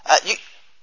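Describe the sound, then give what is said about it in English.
A quick sneeze bursts out in two sharp parts, a breathy catch followed by an explosive release, then fades into quiet room tone. “in my, bless you, in my, oh, again, bless you”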